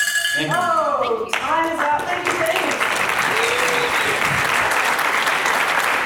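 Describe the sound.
An audience breaks into steady, loud applause that keeps going to the end, with a few voices speaking briefly over the start of the clapping.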